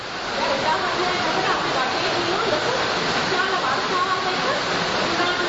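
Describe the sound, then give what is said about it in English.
Heavy rain from a raging storm pours down outside in a dense, steady roar of hissing noise that holds at a constant, fairly loud level with no breaks for the whole stretch. “I think today God gave us background music because we have, even right now outside, there's a raging storm going outside, huge rain, right?”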